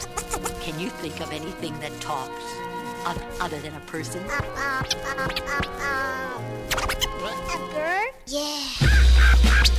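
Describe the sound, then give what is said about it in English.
A parrot chatters in a squawky, speech-like voice with rapid, warbling pitch swoops, fairly loud, before a sudden burst of rough noise at the very end. “Sometimes a parrot talks.”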